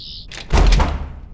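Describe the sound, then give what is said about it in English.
A self-locking door is yanked and rattles in its frame but stays locked, a single heavy clattering thunk, preceded by a brief faint high whine and followed by a short fading rumble. “Self-locking door, not the best start.”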